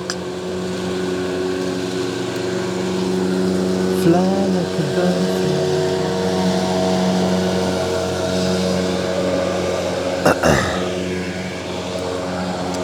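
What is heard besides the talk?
approaching boat engine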